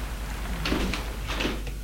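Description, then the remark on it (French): A heavy entrance door to the passage of an apartment building near rue Saint-Jacques being pushed open, with two short scraping, rattling bursts at moderate volume over a steady low hum, and no voices. “La porte d'allée n'est pas fermée.”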